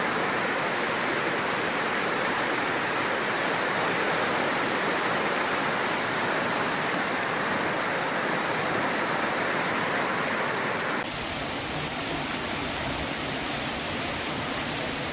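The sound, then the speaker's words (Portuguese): Heavy rainwater rushes and pours over the top of a covered area in a loud, unbroken roar, a dense steady wash of water that shifts to a slightly different tone toward the end, with no voices. “A água já começou a correr por cima.”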